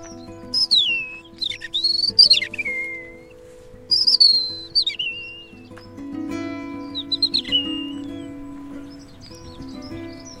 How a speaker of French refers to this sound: Ah, accenteur mouché, c'est une autre espèce qui répond. C'est un petit accenteur, juste là, le petit oiseau gris, crie comme une souris.